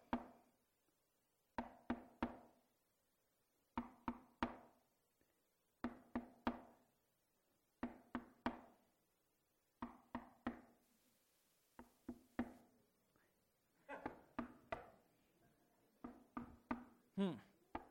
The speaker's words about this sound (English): You can leave him out there knocking. But it's just going to keep on going.